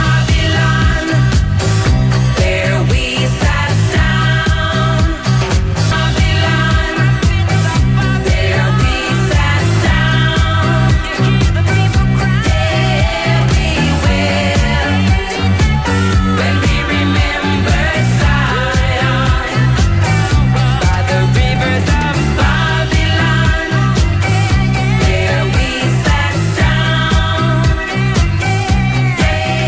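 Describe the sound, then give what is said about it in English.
The best-selling pop single of 1978 plays loud, with a full band, a steady driving beat and layered vocals holding a constant level throughout. “And the number 1, the best-selling single of 1978, was this.”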